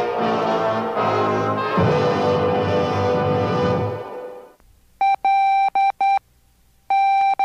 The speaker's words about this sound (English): And if you learn a little bit, this is how WFMU sounds like in Morse code.